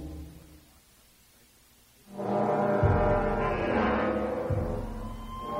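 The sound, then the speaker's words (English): After a quiet low rumble, a loud, deep blaring alarm kicks in through a biotics building and its temporary docking bays and holds steady, its harmonic-rich tone droning continuously without pause until the end. “The alarm cut through the biotics building, the temporary docking bays built outside it, the kill zone surrounding it.”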